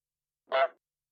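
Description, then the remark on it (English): A single loud goose honk, short and nasal with a brassy, harmonic edge, sounding alone against silence. “Sam was awoken in the middle of the night by a loud honk outside his window.”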